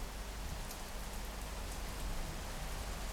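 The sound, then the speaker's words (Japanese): Heavy rain pours down late at night, around 2:30, in a dense, steady, enveloping hiss that stays constant throughout, with no voices. “雨が強く降り出した。”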